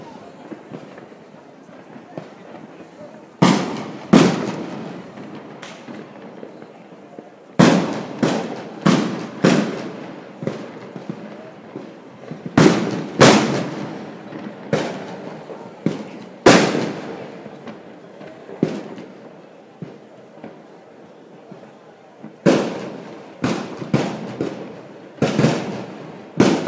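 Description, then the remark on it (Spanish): Loud, sharp gunshots crack out in irregular bursts in the street, approaching, some fired in quick clusters and others spaced apart, with a steady murmur of background noise in between. “Aún así, ya se escucha de manera más que notable el sonido de los disparos.”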